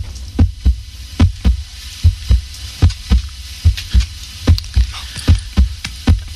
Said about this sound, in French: Voici maintenant le bruit du cœur. Donc, on l'écoute, puis à vous de trouver comment il a été enregistré.